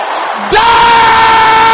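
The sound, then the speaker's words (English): An audience of brothers erupts into a loud, sustained collective shout, rising suddenly and holding at full volume as many people yell the same thing together in unison. “Is that the loudest the brothers can shout it?”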